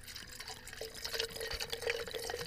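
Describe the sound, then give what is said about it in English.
Sparkling water pours steadily into a glass while making a mojito cocktail, with a bright, fizzy hiss and faint crackling bubbles, fairly quiet, swelling slightly toward the end. No one speaks. “Then we add some sparkling water.”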